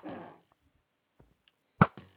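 Video game bow fire: a short whooshing release, faint clicks, then a sharp, loud arrow shot that quickly fades. Close and crisp, with no one talking.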